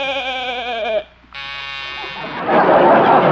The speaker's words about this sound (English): Man, the Goshen, what was that? That's a new door buzzer, Doc. Just have Arthur's batteries recharged once a week.